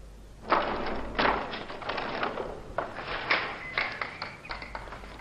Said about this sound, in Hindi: दरवाजे को ताला क्यों लगा रहे हो? खोलो।